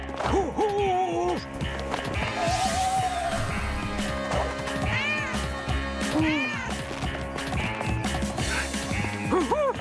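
A cat meows repeatedly, its rising and falling cries coming several times over a busy, constant background of music and noise, fairly loud throughout.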